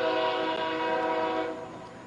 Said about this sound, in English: And there goes one of those trains. We can't see it. We can certainly hear it. Sounds like it's in the ballpark with us.